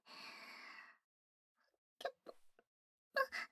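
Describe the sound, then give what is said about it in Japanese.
A drawn-out, breathy burp lasting about a second, then a pause and a few short, sharp bursts of mouth and throat noise. No talking. “すみません、私としたことがゲップなんて。恥ずかしいです。”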